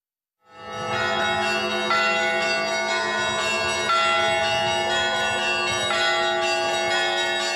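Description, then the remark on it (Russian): Church bells of the Holy Spirit church in Nefteyugansk peal continuously after a brief silent start, calling worshippers to a Lenten service, with dense overlapping strikes ringing out loudly and steadily, the rich metallic tones sustaining and blending without any voices. “Колокольный звон созывает нефтеюганцев на службу”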